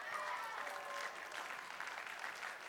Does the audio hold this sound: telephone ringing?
no